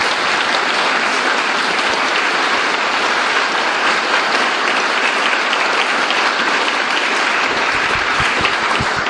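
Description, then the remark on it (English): Sustained audience applause for two board presidents who put together a festive evening, a steady dense wash of many hands clapping at an even loudness for several seconds, with no voices rising above it. “And let's just give them an applause.”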